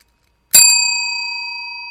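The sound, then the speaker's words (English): A single bright bell strike after a brief silence, its clear metallic tone ringing on and slowly fading, fairly loud, with no voices. “The plaintiff bell, that was.”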